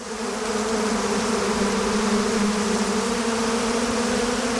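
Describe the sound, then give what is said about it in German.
A dense swarm of bees buzzes steadily and loudly throughout, a continuous droning hum with no pauses and no voices. “Ein Bienengesummel. Ich habe hier einen Bienenschwarm für euch.”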